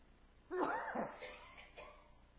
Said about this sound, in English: I've got to sneeze.